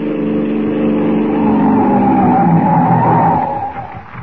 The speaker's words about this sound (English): In the meantime, the mask has sent his henchmen, Lefty and Joe, to stop the police car at the crossroads. They crouch in the darkness as the car approaches.